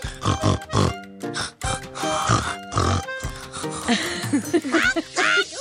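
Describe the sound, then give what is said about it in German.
A person imitates snoring with their voice as a snoring rap, producing a rhythmic string of loud, rasping snorts and grunting inhales, some with a humming, voiced tone, repeated over several seconds with no words. “Für mein Schnarchrap.”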